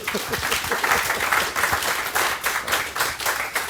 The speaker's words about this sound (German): Ein Applaus für Jens Ohlig.